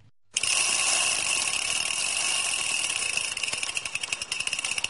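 A bicycle rolls past on the Rákospatak cycle path in Budapest, beside a stream and away from car traffic, with a rapid, buzzing ratchet whir from its coasting freewheel. It starts abruptly and stays loud and steady, breaking into quicker pulses near the end, with no voices.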